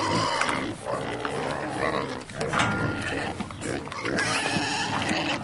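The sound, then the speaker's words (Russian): Several pigs grunt and snort, their rough, overlapping calls forming a dense, steady racket for several seconds with brief louder bursts. “Хозяин нанял его присматривать за свиньями.”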